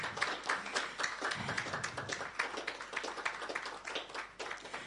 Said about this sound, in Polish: Oklaski, proszę Państwa.